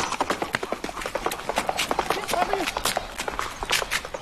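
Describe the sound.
Quick, rhythmic hoofbeats of a small guide horse at a gallop mix with the running footsteps of its jogging handler, with faint breathing and scattered voices in the background.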